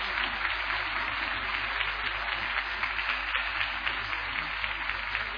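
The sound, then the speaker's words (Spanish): A crowd applauds steadily for several seconds, a dense, continuous wash of clapping at even loudness with a low hum underneath and no voices standing out, giving a loud round of applause to Jesus Christ. “¡Vamos a un fuerte aplauso a Jesucristo!”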